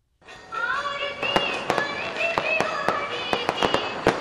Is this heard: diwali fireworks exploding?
yes